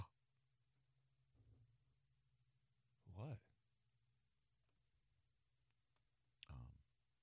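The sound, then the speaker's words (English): Two sharp, breathy gasps from a person, about three seconds apart, fairly loud against a quiet background hum. “I will say, sometimes I feel like your gasp set me up for something that then ends up not being as big, but that was on brand.”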